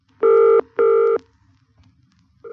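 A domestic telephone being dialled sounds two steady, buzzy electronic tones in quick succession, a pause of quiet, then a third tone begins. The tones are loud and even in pitch, with no voices.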